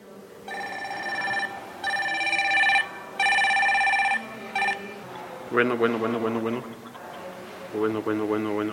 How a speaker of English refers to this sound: The sound of a mobile phone is routine in much of the world, but it's a recent arrival here in Talea de Castro, a mountain town in the southern state of Oaxaca, Mexico.